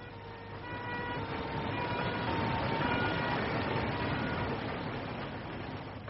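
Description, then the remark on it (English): An ambulance siren wails over a dense rumble of traffic, swelling slightly louder midway and then easing off as it passes. No one speaks. “See that ambulance? Follow it.”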